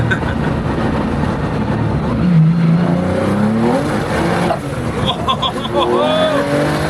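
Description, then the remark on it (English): A Porsche 911 engine roars as it accelerates hard, its loud droning pitch climbing in steady sweeps through the gears, with a rough, rumbling low end throughout. “And just, at the end of the day, it's just a Porsche 911, but I don't know, for some reason, this is just a crowd magnet everywhere it goes.”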